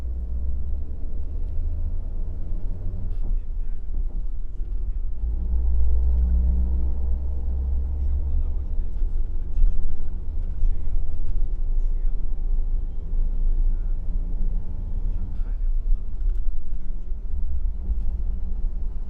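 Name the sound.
bus engine rumble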